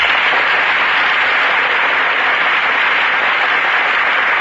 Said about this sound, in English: And here come the stars. The audience breaks into applause as Joan Blondell and Melvin Douglas enter our Gulf Theater stage.